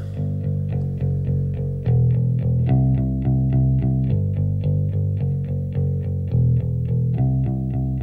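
An indie pop song intro, track number 3 of an album, plays loud, with effected, chorused guitar chords struck in a steady, even rhythm over a solid bass line, and no vocals yet.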